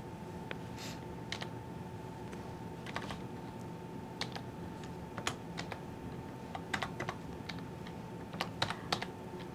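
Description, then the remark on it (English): Irregular bursts of typing on a computer keyboard, fairly quiet, with clusters of quick clicks separated by short pauses over a steady low hum. No one speaks. “Sorry, having a bit of a problem with this keyboard.”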